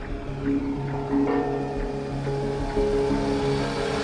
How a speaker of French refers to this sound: Voilà, ah, c'est le jardinier qui passe avec son tracteur. Alors le jardinier joue un rôle très très important parce que c'est lui qui s'occupe de l'entretien de tout le parc et tout le jardin.